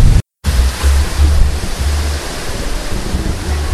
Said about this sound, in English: It's 7 o'clock. It's getting dark out. Still windy, and it's still getting cold.